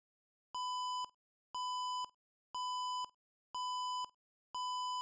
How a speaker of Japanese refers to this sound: けたたましい警報音が廊下に響き渡った。どうやら監視用のセンサーに捉えられてしまったみたい。